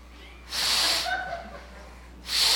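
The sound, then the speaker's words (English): A young female donkey sniffs the air in two loud, breathy bursts, a longer snort-like inhale followed by a shorter one about two seconds later, with no talking. “It's a young female donkey, and she's sniffing the air, looking for a man.”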